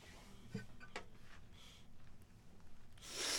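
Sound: nasal sniffling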